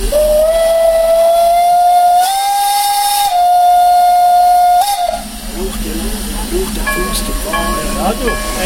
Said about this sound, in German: Dann ist die mit Flaggen und Blumen geschmückte und auf Hochglanz polierte Dampflok mit den dunkelblauen Waggons endlich angefahren Richtung Furka-Passhöhe.